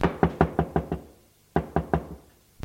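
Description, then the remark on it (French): Someone raps firmly on the wooden door of a room upstairs before entering: a quick run of five knocks, a brief pause, then three more, fairly loud with no voices. “Avant d'entrer dans une pièce, je frappe à la porte.”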